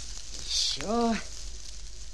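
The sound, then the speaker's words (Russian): A short, bright hiss of a fire sizzling out as it is smothered with sand, followed by a brief rising-and-falling voiced sound, then low quiet background. “Пожалей меня, Мартын, засыпь огонь.”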